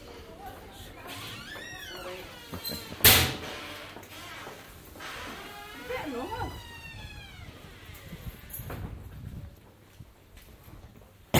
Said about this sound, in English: Pardon me. Yeah, I've still got a bit of cough yet for that flu. Still sucking mints. Trying to ease the top of the throat.